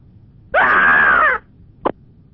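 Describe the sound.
A caller on a phone-in show shrieks in a loud, high, wavering screech imitating a monkey, lasting under a second, followed by a brief sharp click or pop.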